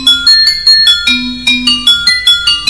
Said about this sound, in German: das ist wie ein Xylophon, bloß aus Blech